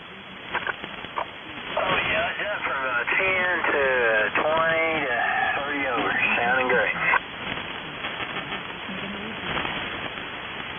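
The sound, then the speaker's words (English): Shortwave radio hiss with a few brief ionosonde beeps near the start and end, and a warbling, wavering signal in the middle. The tones sound thin and band-limited, riding on steady static. The ionosonde signal repeats every 120 seconds exactly and is heard on all the shortwave bands. “Beep, beep, beep, beep. I think that's an ionosonde.”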